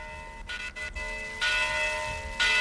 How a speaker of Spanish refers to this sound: Suenan las campanas de la Basílica de Santa María la Mayor y Real en Santiago de Compostela. Está en el barrio de Sar.